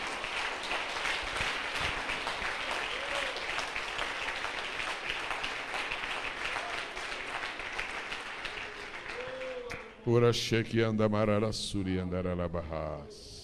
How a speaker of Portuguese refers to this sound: Aplausos.